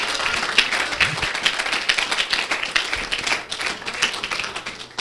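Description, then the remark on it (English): A crowd at a worship service claps in praise, steadily and continuously, many hands blending into a dense, bright wash of applause, fairly loud, with no pauses. “Let's give the Lord a hand clap of praise tonight.”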